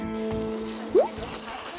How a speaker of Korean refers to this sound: 준현이 형 입속으로 면이 빨려 들어가는데 고래한테 물고기들이 빨려 들어가는 그런 느낌이에요.